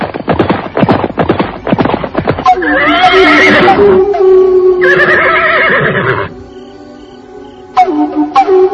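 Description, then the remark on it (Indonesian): Quick hoofbeats clatter as two riders arrive on horseback, then horses give two long, loud whinnies, one after another, with the trotting picking up again at the end. No one speaks. “Dan benar, tak lama kemudian muncul 2 orang penunggang kuda.”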